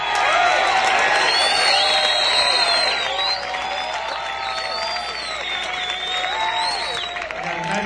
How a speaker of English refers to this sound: First of all, the man who put the B in bass horn standing up and talking back from Grimsby and Lincolnshire in England, will you please give a nice round, warm thing of applause for on the bass guitar